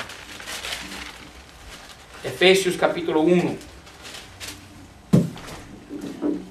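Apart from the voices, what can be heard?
bible pages being turned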